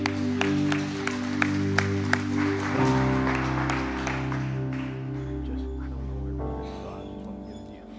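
An audience claps praise at the end of a morning worship service, a steady, dense wash of applause over sustained keyboard chords, with a few sharper accented claps early on before the clapping settles and gradually thins.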